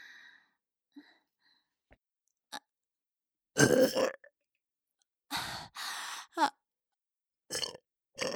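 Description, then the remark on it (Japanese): A close, fairly loud series of burps: one long rumbling belch, then several shorter ones in quick succession with brief silent gaps, plus a few faint clicks and breaths between. “ねえ、以前のあなたのおしっこゲップと比べていかが？”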